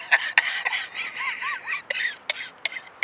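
A string of short, sharp coughs comes in irregular bursts, fairly loud, with a rough, wheezy rasp lingering between them and no talking.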